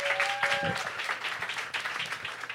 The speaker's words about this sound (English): give her a round of applause, you guys.